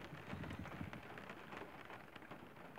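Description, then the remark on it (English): Steady rain falls outdoors, a dense continuous hiss with scattered droplet patter and a low rumble underneath, even in loudness throughout. “Has that fire gotten out of control? I doubt it with the rain.”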